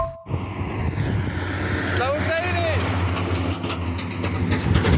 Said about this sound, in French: Là, tu viens d'entendre passer un Grad. C'est un camion militaire avec des missiles en fait à l'arrière, et qui se dirige dans une direction qu'on ne dira pas pour protéger sa position.